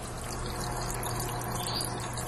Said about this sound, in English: Would you like to hear the sound of my aquarium pump?